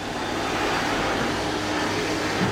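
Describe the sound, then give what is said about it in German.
A vacuum cleaner runs steadily, a loud, even whooshing roar with a low motor hum beneath it, holding the same level throughout with no voices. “Ja, es ist ein Staubsauger.”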